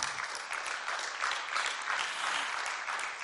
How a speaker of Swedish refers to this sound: Min man och jag, vi har varit gifta nu i, alltså det blir 40 år till hösten. Ja, jag tycker det är värt en applåd.